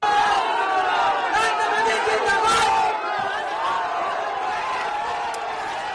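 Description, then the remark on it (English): A large street crowd in West Bengal, India, cheers and shouts enthusiastically, greeting one of the candidates during the general election; a dense, steady roar of many voices with rising whoops, peaking loudest midway before easing slightly but continuing throughout. “The sound there of some cheering, very enthusiastic crowds greeting one of the candidates on the streets of West Bengal.”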